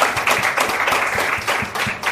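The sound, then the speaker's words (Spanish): Sustained applause from a crowd, a dense, steady wash of many hands clapping at once, loud and continuous with small surges in intensity throughout. “Un aplauso fuerte.”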